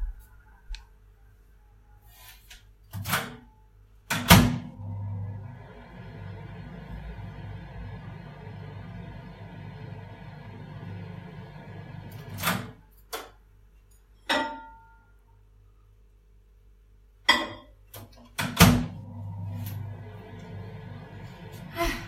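A microwave oven runs with a steady low electric hum, framed by sharp clicks and taps from the door and buttons; it stops, clicks a few more times, then starts humming again.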